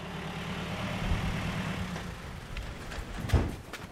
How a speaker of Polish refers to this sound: Widzimy samochód wojskowy, który przyjechał pewnie z żołnierzem, ponieważ miałem zgłoszenie o urazie, więc myślę, że to właśnie przyjechali chłopaki z granicy.